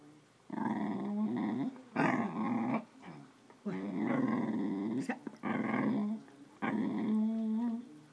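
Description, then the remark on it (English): A male dog growls and whimpers in several drawn-out, voice-like bursts separated by short pauses, fairly loud, with rising and falling tones almost like it is trying to talk. “He's a good dog. Yes. However, I think he's done talking.”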